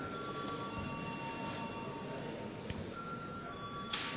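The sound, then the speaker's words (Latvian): A continuous electric bell rings steadily in the Latvian parliament (Saeima), calling deputies to vote on sending a bill to committee, a sustained buzzing tone over a low background rumble, with a brief click near the end. “Lūdzu zvanu.”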